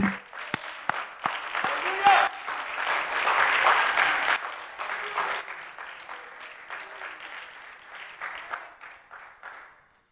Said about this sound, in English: If we can give God a hand clap of praise before we sit down.